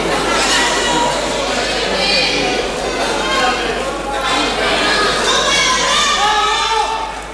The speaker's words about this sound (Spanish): Hay algunos bien, gritos.